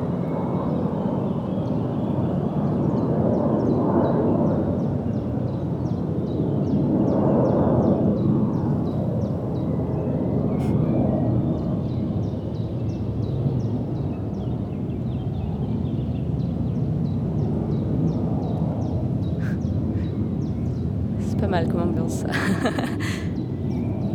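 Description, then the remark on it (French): An airplane rumbles steadily overhead, a broad, continuous roar that swells slightly as it passes, while a chiffchaff and other small birds keep singing and chirping faintly above the engine noise. “Il y a l'avion qui passe, puis on entend le Puyo Veloz qui chante par-dessus, sans souci.”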